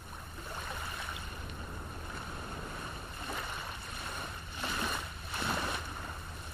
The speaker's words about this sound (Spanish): Este sonido es del mar de Punta Arenas, cero bullicio. La zona comercial allí muy cerca, el muelle donde llegan los cruceros